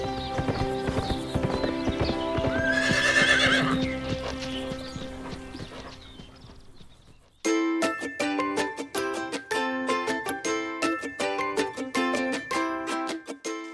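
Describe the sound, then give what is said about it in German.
A horse named Wellington whinnies over a swelling musical backdrop, then quick, steady clip-clopping hoofbeats of the horse running ring out loud, accompanied by rhythmic music, with no talking. “Und wie er läuft! Da hat Jane ein Pferd wirklich sehr, sehr glücklich gemacht.”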